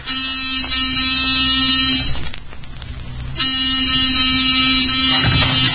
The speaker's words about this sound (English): All right, Wolf. Give the buzzer a punch.